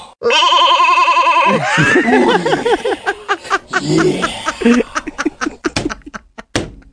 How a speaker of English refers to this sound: Now, Chad, we bought you a new goat. We know what happened to the last one, so you be careful with this one.